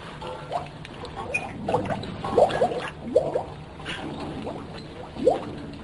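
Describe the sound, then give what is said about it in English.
An object is eased into water, setting off a run of soft, irregular gurgles and bubbling blips over a steady low background hum, with a louder burble near the end. “Put it in the water. Easy.”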